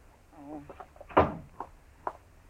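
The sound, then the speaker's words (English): A door is pulled shut with a sharp, solid thump, followed by a softer knock or two as it settles. A brief faint voice-like murmur comes just before. “Shut the door, Chester.”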